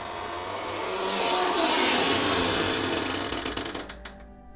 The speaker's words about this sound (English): The large door opens with a very loud and long creak.